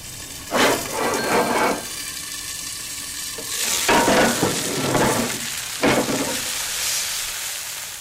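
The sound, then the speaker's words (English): Chicken sears over high heat, at 550, for 4 minutes a side in a heavy iron skillet with a steady, bright sizzle, broken by three louder bursts of crackling and scraping as the pieces are moved around. No one speaks. “I do the chicken in a heavy iron skillet. High heat.”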